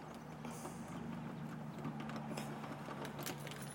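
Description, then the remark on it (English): Keys jingle and click in scattered bursts as a house door lock is worked from a carport while a phone is held, the light metallic rattles coming and going over a steady low hum. No one speaks. “So just bear with me while I hold the phone and the key at the same time here.”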